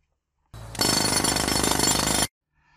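A loud jackhammer pounds in a rapid, steady rattle for under two seconds, its harsh hammering close and continuous before stopping abruptly. No one speaks.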